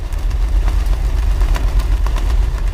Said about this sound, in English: Now consider the noise of a passing freighter.